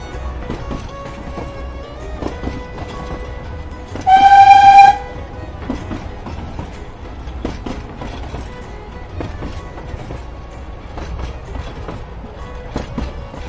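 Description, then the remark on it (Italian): A train rumbles steadily along the rails with a rhythmic clatter of wheels, and partway through a loud, brief horn blast rings out over the rolling noise. “Quel treno che lo riporta in Italia dal Belgio sarà quello che gli cambierà la vita.”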